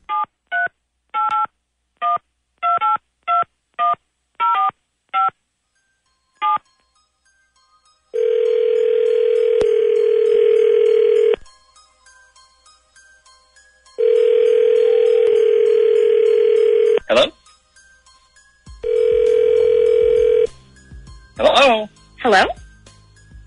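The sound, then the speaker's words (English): A rapid run of about a dozen touch-tone beeps as a telephone number is dialed, then loud, steady telephone dial tones that sound in long stretches, separated by pauses, with a few brief chirpy sounds near the end. “All right, so you dial yours. Let me get you your dial tone, and then it's off to the races.”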